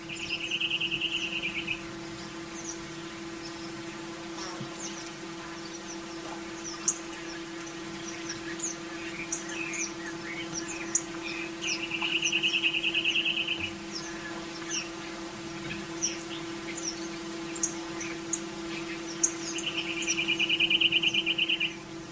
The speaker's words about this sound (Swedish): Och i Kina, Shanghai, vass papegojnäbb.